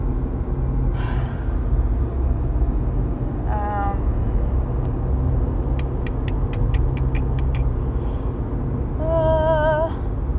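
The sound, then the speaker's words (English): Heavy truck traffic rumbles steadily while several high-pitched brake squeals cut in and fade, along with a quick run of rapid ticking clicks midway. “Oh, there's so many trucks here.”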